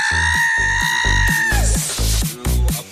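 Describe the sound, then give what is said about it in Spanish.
A woman lets out a long, shrill scream that holds steady for over a second and then slides downward, loud over a thumping, rhythmic music beat. “¿Cómo grita la señora?”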